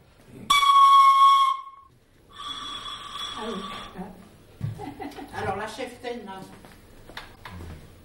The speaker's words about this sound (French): Quoi faire? Siffler. On peut utiliser tout ce qu'on veut pour faire la musique.